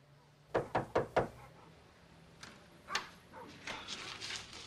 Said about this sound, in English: Now, Charlie knocks at a door.